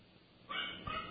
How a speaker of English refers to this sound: So I hear the puppies in the background.